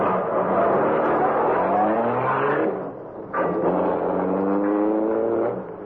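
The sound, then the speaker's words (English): A car engine roars as it accelerates hard in pursuit of another car heading toward River Road, its pitch climbing, dipping briefly at a gear change, then rising again. Loud, with no voices. “Speed up and pass them, Cato.”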